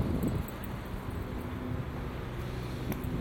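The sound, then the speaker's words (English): Steady outdoor wind rumbles and buffets the microphone outside an eatery, a dense low-frequency roar with faint rustling, continuous and fairly loud throughout with no one speaking. “Anyway, oh, it's windy, so I'll just stop here to shut things up.”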